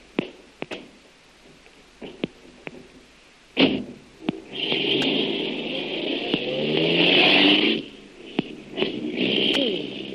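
A few sharp clicks and knocks, then a car engine turns over and roars for several seconds, its whine rising in pitch as it pulls away before dropping off, followed by a couple more clicks.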